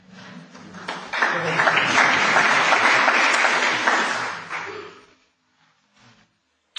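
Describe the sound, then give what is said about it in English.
An audience at a Reformed worship gathering breaks into applause, a dense, steady wash of many hands clapping that swells quickly, holds for about four seconds, then fades out into near silence. “I thought Reformed people didn't clap in worship, but there we go.”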